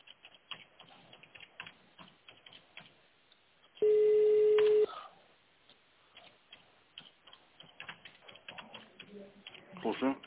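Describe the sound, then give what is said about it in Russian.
A single steady telephone keypad tone, an extension number dialed in tone mode on a call to the company Inform Consulting, lasts about a second, loud over a quiet, muffled phone-line background with faint murmuring and a few short clicks near the end. “Если вам известен внутренний номер абонента, наберите его в тоновом режиме.”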